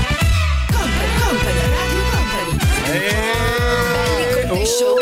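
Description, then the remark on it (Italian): A loud siren sound effect wails continuously, its pitch sweeping up and down in repeated arcs over a low, buzzing drone, filling the whole stretch with no talking. “Sta roba della sirena che ha adesso a disposizione.”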